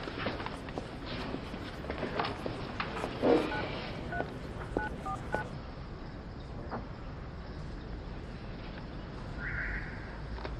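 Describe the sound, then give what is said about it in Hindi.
Several short electronic beeps from a telephone keypad being dialed to call and book a hotel, spaced irregularly over steady background hiss, followed near the end by a longer soft tone. “जाओ जाओ जल्दी से, जमशेद को फोन करके तुम्हारे लिए एक अच्छा सा होटल बुक करवा देता हूँ।”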